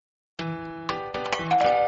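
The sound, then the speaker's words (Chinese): A doorbell chimes repeatedly after a brief silence, bright ringing tones with strong harmonics, several overlapping strikes in quick succession, fairly loud with no voices. “我去开门。”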